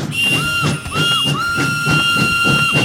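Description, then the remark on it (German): A loud, sustained steam locomotive whistle sounds in overlapping tones, rising and dipping in repeated bursts over a steady chugging, hissing rumble. “Emma schnaufte und pfiff vor Vergnügen. Manchmal pfiffen sie zweistimmig.”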